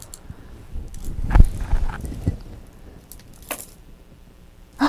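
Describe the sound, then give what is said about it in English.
A set of keys jangles and clinks in a few short, scattered bursts as a key is put back onto the key ring, with quiet handling noise between the louder clatters and no talking. “Where are the other keys?”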